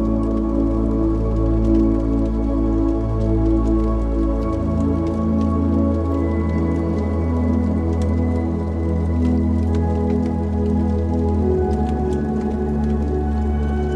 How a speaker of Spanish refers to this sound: Escuchando el crepitar de la leña.